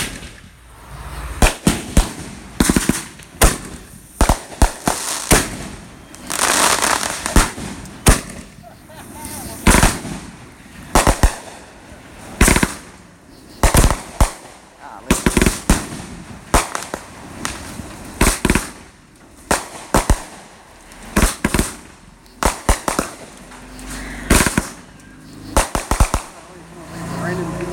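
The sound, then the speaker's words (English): Leftover fireworks and firecrackers bang in a rapid, irregular barrage, sharp loud pops and crackles overlapping for the whole stretch with brief gaps between bursts. “Yeah, this raining leftover fireworks stuff.”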